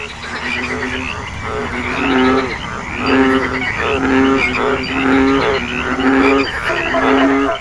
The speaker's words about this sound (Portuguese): Mas, como se na floresta houvessem milhares de caixas de som espalhadas, todos os sapos, rãs, pererecas, cururus, começaram a coachar ao mesmo tempo.